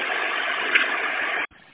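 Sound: bus engine idling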